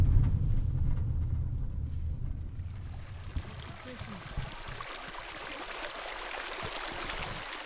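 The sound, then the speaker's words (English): Spring water flows steadily at the surface at a spring in central Nevada, where deep underground water comes up, a continuous bright babbling wash with a low rumble underneath during the first few seconds before the water carries on alone. “I'm at a spring in central Nevada. It's a place where water that's deep underground comes to the surface.”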